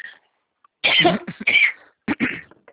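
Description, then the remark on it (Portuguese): A few harsh, raspy bursts of coughing and throat clearing, fairly loud, in two clusters separated by a short pause, from a woman answering a phone call. “moço, muito agora que você ligou, uma tosse.”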